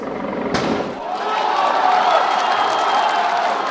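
A huge stadium crowd cheers at a 100-meter sprint final as Bolt is introduced, in a dense, continuous roar that swells and grows louder after a sharp bang near the start, with many voices blending together.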